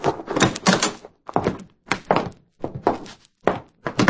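A door is opened and closed: a series of heavy wooden thunks and knocks in uneven bursts over a few seconds, with no one talking.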